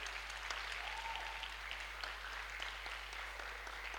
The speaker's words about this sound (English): Oh, you're clapping for the bishop.